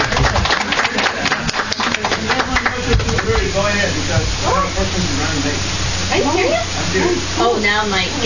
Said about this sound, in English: So let's hear a round of applause for all here.